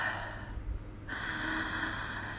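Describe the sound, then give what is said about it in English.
Heavy, airy breathing: a noisy exhale that eases off, then a fresh inhale rushing back in, steady and fairly loud with no talking. “Listen to me breathe.”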